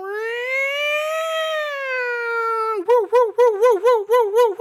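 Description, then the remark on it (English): A voice imitates a siren, first holding a long, loud wailing tone that swells and sags, then switching to a quick, pulsing warble of about seven rapid yelps. “We need like a siren drop right here.”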